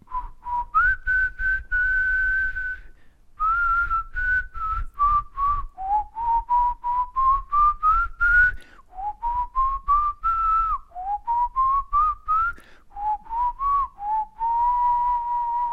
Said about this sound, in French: Papa, tu nous siffles quelque chose?